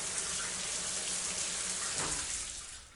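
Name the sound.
shower water running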